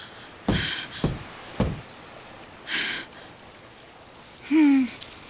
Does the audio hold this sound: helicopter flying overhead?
no